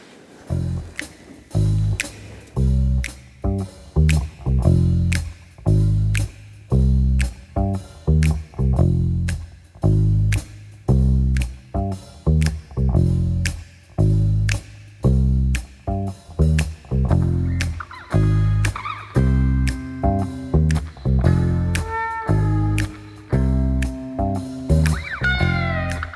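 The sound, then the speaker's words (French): A recorded song plays steadily with a driving, regular beat and a heavy bass line, with melodic layers swelling toward the end. It's loud, with nobody talking over it. “On peut écouter un peu de musique.”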